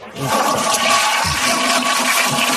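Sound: toilet flushing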